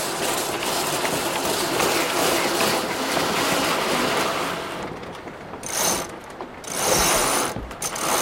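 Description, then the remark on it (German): A winch ratchets steadily as a line is hauled in to set the sails of a boat on an all-women research expedition sailing around the world, a dense run of rapid metallic clicks that briefly pauses and surges again, with no voices present. “Segel setzen!”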